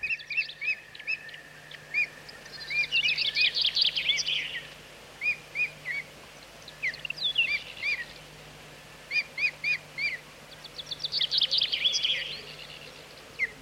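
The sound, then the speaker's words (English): Osprey calls, from a brown and white bird, ring out in bursts of sharp, high whistled chirps, repeated in quick rhythmic series with short pauses between, fairly clear over a faint steady background hum. “The osprey is a brown and white bird which could possibly be mistaken for a seagull at a distance.”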